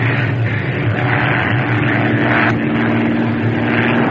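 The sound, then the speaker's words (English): A propeller airplane engine drones loudly and steadily, a constant low roar with a harmonic buzz that swells slightly as the plane dives down to 10 feet above the water through a storm and sleet, continuous throughout. “Dive down to 10 feet above the water. Can't shake that sleet. Okay, up. Up now.”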